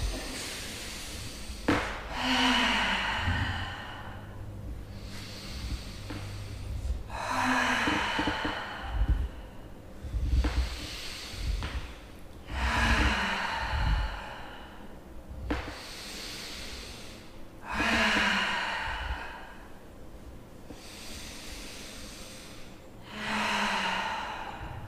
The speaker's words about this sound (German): Und atmest aber trotzdem weiter. Tief in den Schoß atmen.